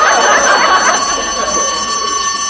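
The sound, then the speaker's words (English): A fire bell rings loudly and without a break, a harsh metallic clangor with steady high tones running the whole time. No voices are heard. “Now, here's the fire bell, right? It's a completely different sound.”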